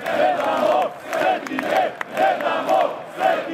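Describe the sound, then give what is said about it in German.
A large crowd of several thousand believers in a religious procession through Podgorica chants in unison, repeating the slogan "We will not give up our holy relics" in steady rhythmic phrases about every half second, voices loud and massed with rising and falling melodic inflections. “Wir geben unsere Heiligtümer nicht her. Das rufen die Gläubigen und das steht auch auf den wenigen Transparenten in der Menge.”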